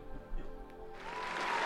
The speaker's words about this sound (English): Who's clapping at that? Who claps at that?